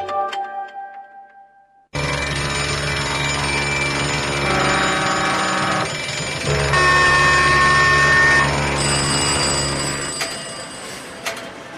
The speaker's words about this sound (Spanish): Alarmas, hay muchas.